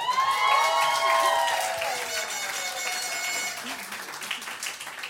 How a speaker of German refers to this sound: Unser Präsi hat das Ganze organisiert und der Vorstand uns die 2 Tage dirigiert. Dafür ein großer Applaus und ganz viel Dank, denn jetzt haben wir endlich viel Geld im Schrank.